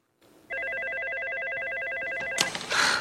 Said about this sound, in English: And her desk phone rings again immediately, so she makes the obvious assumption.